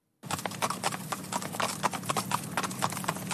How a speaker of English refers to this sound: Trotting along a quiet country road, Pat Leary is dressed in a military uniform similar to that worn by the Light Horse more than 100 years ago.